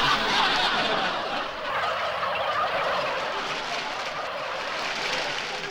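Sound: turkeys gobbling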